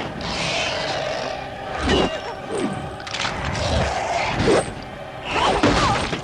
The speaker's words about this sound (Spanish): La maza destroza el escudo de la chica, dejándola herida en el suelo.